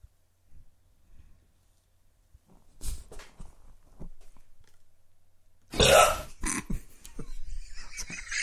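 A few small burps and gulping noises, then one long, loud, raspy belch, followed by scattered lighter bursts of sound; audio taken from the TV show Cheers, a burping at the bar.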